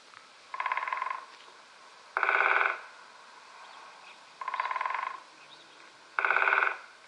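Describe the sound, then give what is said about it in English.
A woodpecker drums on a tree in four short, rapid rattling bursts spaced about two seconds apart, the bursts alternating slightly in pitch and loudness, with quiet background in between. “A woodpecker hammers at the tree to communicate with potential mates and rivals.”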